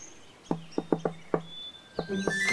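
A secret knock: five quick, sharp knocks on a door, a brief pause, then two answering knocks from the other side, with faint birdlike chirps and tones in the background.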